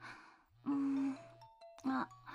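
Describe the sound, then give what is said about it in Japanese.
A smartphone ringtone plays for an incoming call: two loud bursts of bright, electronic melodic tones with lingering chime-like notes between them, over a steady low hum. “私のスマホ鳴ってる。”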